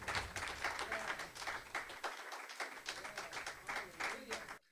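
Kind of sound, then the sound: crowd, audience hand clapping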